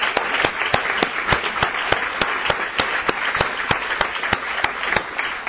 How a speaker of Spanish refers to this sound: Yo quiero que les demos un aplauso muy fuerte a todo el equipo de Amistad